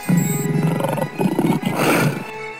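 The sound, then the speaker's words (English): A lion, Aslan, roars loudly as he flings himself upon the White Witch: one long rumbling, growling roar that swells and rasps for a couple of seconds before cutting off, with no voices. “Then with a roar that shook all of Narnia, from the western lamppost to the shores of the eastern sea, the great beast flung himself upon the White Witch.”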